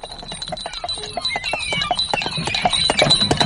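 A horse-drawn carriage clip-clops along a path, steady hoofbeats rising in loudness over a rattling, hissy background, then pulls up and stops with a sharp tug of the reins; no voices present.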